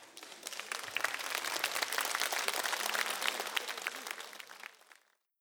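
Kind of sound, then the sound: crowd, audience clapping hands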